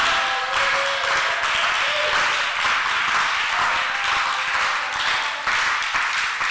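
A church audience claps and shouts together at the preacher's urging, a dense, steady wash of applause with raised voices mixed in, loud and continuous for the whole stretch.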